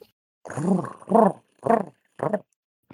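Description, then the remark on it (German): A voice heard over Discord imitates the cooing call of a pigeon, a Swedish rat pigeon. It gives four throaty, low-pitched coos in an uneven rhythm, the first longest, with short pauses between, fairly loud and with no other sounds. “Kannst du das Geräusch bitte nochmal machen?”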